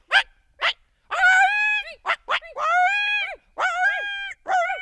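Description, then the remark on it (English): Two people imitate coyotes: a couple of short sharp yips, then a run of loud, wavering howls that rise and fall, several overlapping and repeating in quick succession, with no talking. “we made a sound that you might recognize. So you start doing that.”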